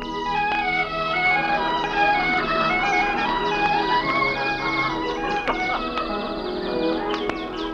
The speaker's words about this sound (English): The sun is just rising over the snow-capped mountains. Birds are twittering in the giant redwoods.